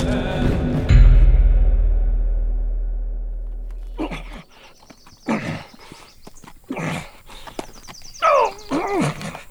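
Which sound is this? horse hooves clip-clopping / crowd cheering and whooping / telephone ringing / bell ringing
horse hooves clip-clopping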